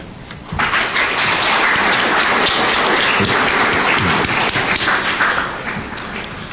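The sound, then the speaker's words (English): A crowd at the Feast of Tabernacles breaks into loud, sustained applause, affirming the feast got off to a great start; it starts abruptly and holds steady for several seconds, dense overlapping claps easing slightly at the end. “I shall ask as a question, by way of perhaps applause, how many of us will say the Feast of Tabernacles got off to a great start?”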